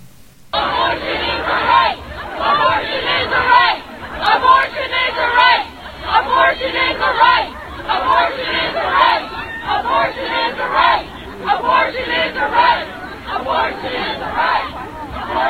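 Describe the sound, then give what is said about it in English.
A large crowd of marchers at a women's march protest chants and shouts in rhythmic waves, many voices together with steady chatter underneath, loud throughout. “This is kind of a compilation of some of the activities that took place that day as we were protesting at the March for Women.”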